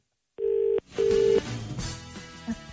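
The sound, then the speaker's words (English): An outgoing phone call from the Today FM radio show rings out: two loud, steady electronic ringback tones in quick succession, followed by faint, muffled line noise. “It's ringing. That's definitely ringing.”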